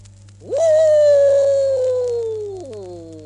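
A single long wolf howl rises sharply, holds a steady, drawn-out tone for about two seconds, then slides down and fades. It is loud, over a faint low hum.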